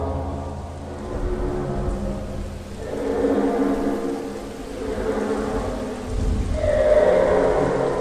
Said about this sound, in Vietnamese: Mưa rền rĩ qua những khe kính và gió lùa theo cánh cửa lật ngoài hành lang, tạo thành tiếng u u hoang dại.